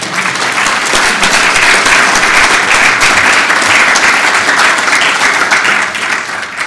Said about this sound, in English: So I think give her another round of applause, please.